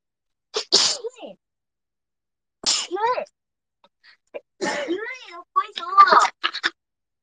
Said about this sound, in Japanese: 濃いやつちょっと来る。そうなんだよね。なんか、結構、ね、来るから、ちょっとくしゃみ出そう。